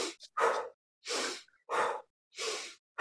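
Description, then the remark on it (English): A series of forceful, breathy belly breaths as a breathing exercise, about five in a steady rhythm, each a short loud rush of air in through the nose and out through the mouth, with brief silences between. No one speaks. “So breathing through your Buddha belly, you're going to go inhale.”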